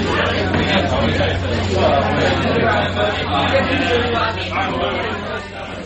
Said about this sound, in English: There's too many people around this bar. Can't hear oneself talk.